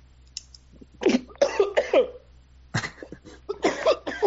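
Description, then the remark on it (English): A run of loud coughs in two clusters: three harsh hacks, a brief pause, then several more rough coughs in quick succession, with no one talking; a cough sound effect played from a soundboard of buttons. “Dude, you still have the cough track.”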